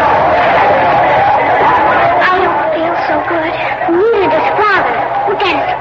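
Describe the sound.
Busy market crowd chatter fills the scene, a dense, steady babble of many overlapping voices, with occasional louder calls rising above the general hubbub as children outside a glove booth shout at the crowds.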